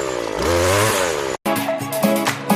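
A chainsaw engine roars loud, its pitch climbing as it revs, then cuts out for an instant before snarling back into another hard rev.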